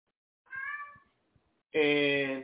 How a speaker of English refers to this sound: And ladies and gentlemen, if you're hearing that in the background, these are these cats, and they are about to get put up.